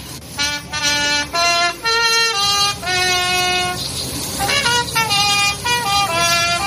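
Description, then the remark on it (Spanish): A trumpet plays a slow melody of loud, sustained notes that step up and down in pitch as a bus full of men bound for the war in Ukraine is seen off by mothers, wives and children, with a steady murmur of background noise underneath and no clear speech. “Es el sonido de la trompeta con la que se despedía ayer a uno de los autobuses que se llenaba de hombres, de jóvenes, de adultos, con destino a esa guerra en Ucrania.”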